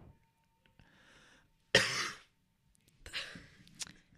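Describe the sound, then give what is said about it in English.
A sharp cough bursts out after a quiet breathy moment, then a weaker rasping cough and a brief final hack follow, with no talking around them. “No, I coughed. No. I coughed. I coughed. I did not sneeze.”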